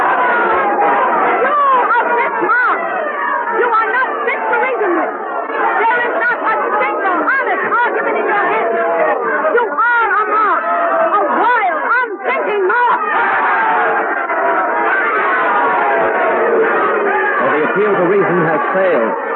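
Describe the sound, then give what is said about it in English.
A loud, dense convention crowd of delegates roars without letup, many voices shouting and screaming over one another in a continuous, agitated din, with occasional louder cries and scattered laughter, as they refuse Susan B. Anthony's call to vote on resolutions. “The crowd, you can hear them. They're going wild. They're shouting. They're screaming.”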